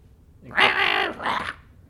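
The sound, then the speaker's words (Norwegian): A person imitates an angry cat with two loud, raspy, snarling yowls, the first long and harsh, the second shorter, with no other talking. “Ja, det høres egentlig ut som en helt vanlig katt. En sinne katt, liksom.”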